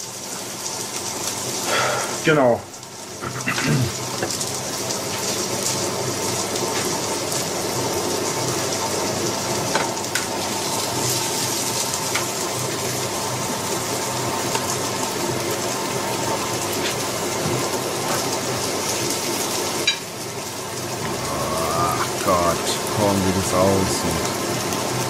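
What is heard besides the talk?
minced meat sizzling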